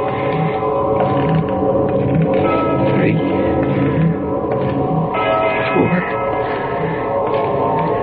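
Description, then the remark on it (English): A church bell far off in the distance strikes the hour five times at a slow, steady pace, each deep bong leaving a long ringing tail that overlaps the next, set against a dense, continuous background. “And then way off in the distance, I heard the deep-throated bongs of a church bell striking the hour.”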